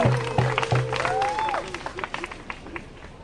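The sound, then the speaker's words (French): Audience applause in Pointe-Saint-Charles: a burst of scattered hand clapping that gradually thins into sparser claps, with a short rising whistle-like tone and low pulsing beeps at the start. “Ouais, il n'y a pas à applaudir.”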